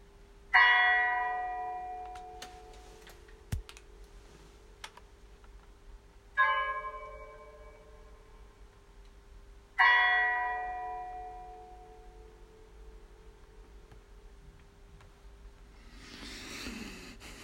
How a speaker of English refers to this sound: There goes the knell, final bell, stark alarm to its tone.